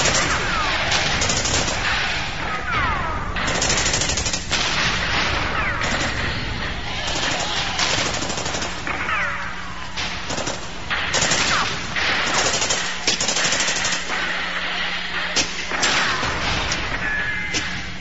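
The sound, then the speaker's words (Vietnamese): A dense, continuous barrage of enemy artillery fire and shell explosions, hundreds of thousands of rounds of all kinds being fired and falling, with overlapping blasts and crackling bursts sounding loud for the whole stretch, like heavy battlefield shelling. “Hàng trăm ngàn quả đạn đủ loại bắn lan và rơi.”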